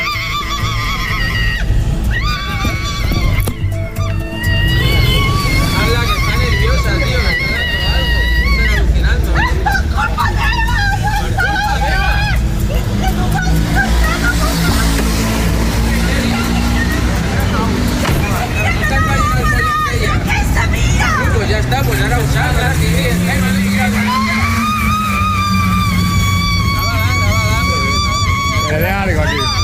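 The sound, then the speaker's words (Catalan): A woman inside a car, having an anxiety attack amid traffic chaos, screams and cries out in distress and helplessness again and again, her voice loud, over a constant din of traffic engines and a murmuring crowd. “Enmig del caos, i després de moltíssima estona, una senyora que era dins un cotxe va agafar una crisi d'ansietat i, presa per l'angoixa, va començar a cridar d'impotència.”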